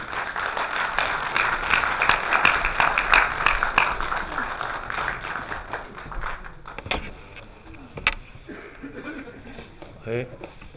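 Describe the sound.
A crowd claps steadily and densely for about six seconds, then the applause thins out to a few scattered claps and faint shuffling before a voice briefly begins.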